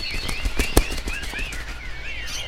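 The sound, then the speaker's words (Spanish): A burst of rapid, clattering wing flaps sounds as a bird takes off while a boy shoos it out, mixed with high chirping calls that continue over a steady outdoor background. “¡Fuera, pájaro, fuera!”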